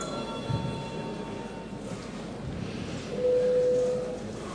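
A parliament voting bell, rung before the vote on deputy Urbanovičs's second proposal, sounds as a single steady, mid-pitched electronic tone lasting about a second, rising over a low background murmur and hum with no speech.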